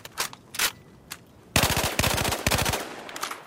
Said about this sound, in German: Und das hier ist eine AK-12. Sie basiert auf der bewährten Technik der AK-Serie, die man auch von der berühmten Kalaschnikow her kennt. Lauflänge 415 mm, Kurven- und Trommelmagazin 600 Schuss pro Minute.